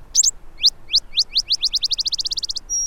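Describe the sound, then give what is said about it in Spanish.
Male Cassin's and Botteri's sparrows sing in the desert during summer courtship, a bright song of high, slurred chips that start spaced apart and quicken into a rapid trill, ending on a thin held whistle, clear over quiet background. “Ahora los machos cantan sus lastimeras frases casi sin parar. Los gorriones de Boteri agregan sus característicos chisporroteos y trinos.”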